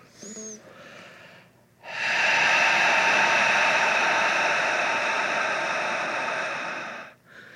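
A long, steady, hoarse exhale from the back of the throat, a breathy rushing hiss lasting about five seconds, preceded by a softer inhale and fading out at the end.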